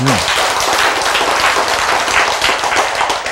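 An audience breaks into loud, steady applause, dense overlapping claps sustained evenly for a few seconds, with a brief voice fading out at the very start.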